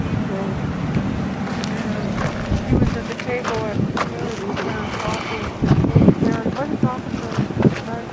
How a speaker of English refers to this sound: Wild horse herd again.